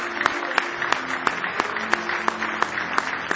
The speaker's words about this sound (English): Well, just give the Lord a big hand clap of praise.